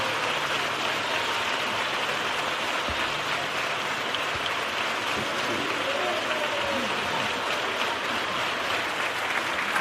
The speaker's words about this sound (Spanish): Parte del público en pie para aplaudir esta segunda letra de Paso Doble